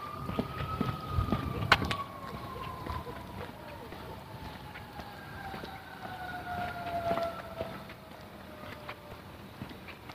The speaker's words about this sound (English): Sirens.